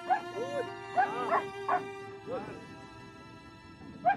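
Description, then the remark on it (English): Large Alsatian police dogs of a police dog squad in South Africa bark in short, irregular bursts, a few sharp yelps and growly barks, spaced out over a few seconds against a steady low background hum. “Footage of a black man being mauled by an Alsatian while a group of police officers watch.”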